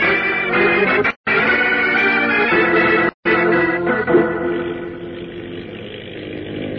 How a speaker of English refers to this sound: Check the exhaust, will you? She seems to be running hot. Suffering catfish. She's doing 50 knots. No wonder. I want to get out there fast.